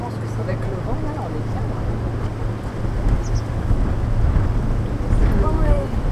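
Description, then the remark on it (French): Wind blows steadily in a low, rushing rumble, building slightly louder in the second half, with faint voices murmuring in the background. “J'entends le vent.”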